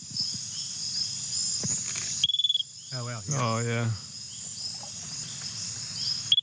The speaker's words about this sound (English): I'll leave you with this lovely sound of two researchers getting quite excited when their little frog finally makes a peep.